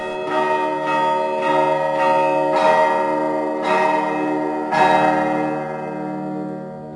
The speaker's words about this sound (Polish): To są takie różne niuanse, różnice, bardzo ciekawe i dlatego też ten konkurs jest organizowany po to, żeby tą tradycję cerkiewnego dzwonienia jakoś kultywować, żeby o niej zacząć pisać, mówić, rozmawiać, tworzyć.